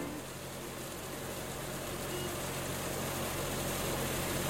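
A beige Renault car's engine idles steadily throughout, a low continuous rumble with a faint hum on top, even in loudness, with no voices.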